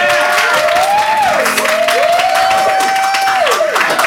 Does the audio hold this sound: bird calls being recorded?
no